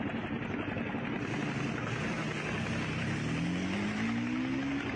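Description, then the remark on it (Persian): A helicopter bringing a donated heart from Shiraz drones steadily overhead above the closed-off Artesh Boulevard highway in northern Tehran, its loud rotor and engine noise filling the scene continuously, with a rising engine tone toward the end and a broad roar of traffic-like noise beneath. “بلوار ارتش راه رو بستن، هلیکوپتر از سمت شیراز یه دونه قلب اهدایی آوردن.”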